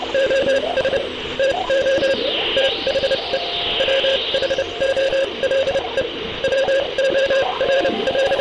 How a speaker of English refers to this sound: On the 28th of November, 1960, still 4 months before Yuri Gagarin's mission, the brothers honed in on a Morse code message from space.